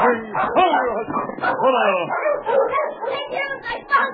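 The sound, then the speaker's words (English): Dogs yip, whine and bark excitedly in a busy, overlapping burst as a little black and white dog runs forward to meet the dog King, like an eager greeting between them, with no clear pauses. “A little black and white dog that was trotting beside the boy ran forward to meet King.”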